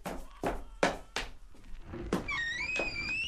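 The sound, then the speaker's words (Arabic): Knocking on the wooden door of Sheikh al-Tabrisi's house: four or five firm, hollow thuds in an uneven rhythm, followed by a brief high, wavering voice-like tone. “سأذهب لأرى من يطرق الباب.”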